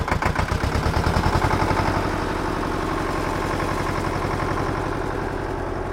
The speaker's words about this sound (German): Lena schmeißt den großen roten Traktor in der Scheune an.